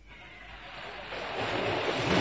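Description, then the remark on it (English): Strong force 9 wind, gusting well beyond that, roars steadily over rushing sea waves at sea, a broad hissing wash that builds in loudness toward the end, with no distinct breaks or pauses. “It's 9 all the time now, sir. Must be gusting well beyond that.”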